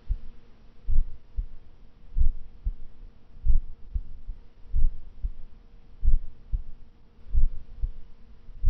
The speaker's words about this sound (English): I want you to listen to my voice and listen to my heartbeat.